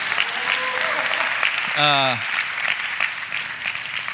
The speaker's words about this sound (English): And as you are seated, can you just give a round of applause to your pastors who are absolutely incredible? Please, that is your cue.